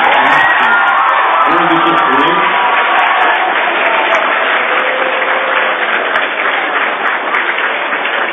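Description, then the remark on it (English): A crowd claps and cheers loudly and steadily for several seconds for musicians after their last piece, a dense wash of applause with whoops and shouts mixed in, holding at full volume throughout. “Give them around the round of applause.”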